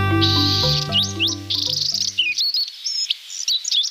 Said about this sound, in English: At this time of year, a very young male Buick's wren is beginning to learn how to sing. Like a human baby, he'll babble while he experiments with sounds and learns how to organize phrases.